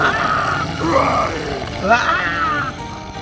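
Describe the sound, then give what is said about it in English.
A person imitates the roar of Frankenstein's monster with the voice, a growling, drawn-out snarl rising and falling over about three seconds, loud. “And Frankenstein's monster will menace you in your nightmare. Roar!”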